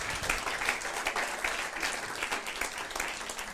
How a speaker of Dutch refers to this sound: En welkom met een geweldig applaus.